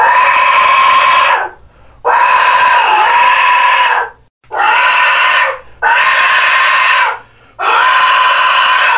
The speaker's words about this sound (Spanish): Entonces de ahí el nombre de Jecaxitli, pero en sí no es silbato de la muerte, sino es silbato de viento, pero conocido como silbato de la muerte. Jecaxitli, silbato de viento, silbato de la muerte.